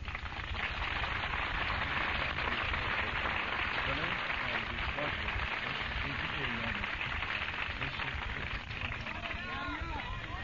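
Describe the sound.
Heavy rain pours down in a dense, steady hiss that never lets up, while people talk over it during a poetry reading.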